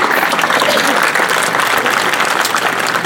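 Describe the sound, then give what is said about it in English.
A crowd at a gathering at UNC claps steadily and loudly throughout, a dense wash of many hands applauding with no pauses and no one speaking over it. “Now give another round of applause for Jeremy.”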